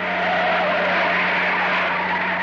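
A loud, continuous screech of truck tires skidding, a sustained harsh squeal over a low engine hum, as the truck turns and pulls up in front of a huge abandoned warehouse; no voices.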